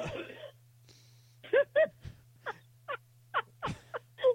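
A man coughs heavily and repeatedly: about eight harsh, voiced hacking bursts in an uneven rhythm, over a steady low electrical hum.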